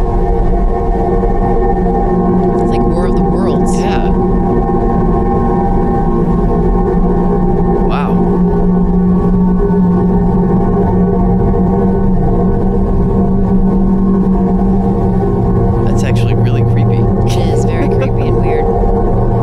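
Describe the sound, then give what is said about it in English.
A recorded sound of planet Jupiter: a loud, continuous, eerie drone of layered humming tones that waver and warble, broken by a few brief hissing, crackling bursts. “A vibrating planet. Right. With a big red dot. Ah, Jupiter.”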